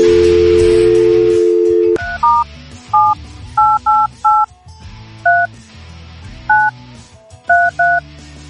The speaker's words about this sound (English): Sorry about my slow dialing.